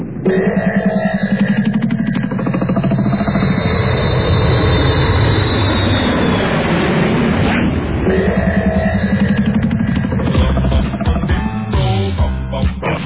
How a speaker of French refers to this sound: La Tex, tu fais chauffer l'avion, nous partons en Australie.